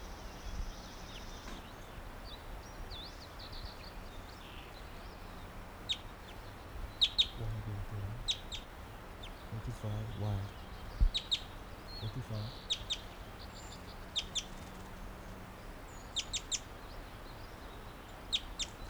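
wild bird chittering

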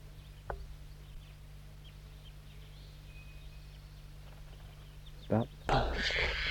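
juvenile crossbill calls

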